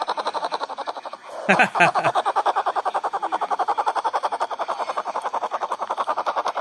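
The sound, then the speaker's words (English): A baby black bear snoring in its sleep: a rapid, steady fluttering drone of pulses, with a brief louder sputtering burst early on, then continuing evenly throughout. “He's just kind of snoring.”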